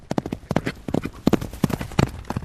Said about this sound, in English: Spend a couple of hours out in the Imbul Forest, you know, in the middle of the night. But for the right people, it's a nice spot to be. I mean, horses coming at you with headlights on the riders, dark. You know, is quite a spectacular.